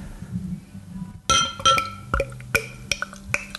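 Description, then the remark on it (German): Beer from a Brauhaus Gusswerk bottle glugs out as it is poured at a microphone, in a string of irregular, ringing glassy pops and clinks, each bright and sharp, with a low murmur underneath and no talking. “Jetzt muss man es natürlich gleich beim Mikrofon so gluckern lassen, oder?”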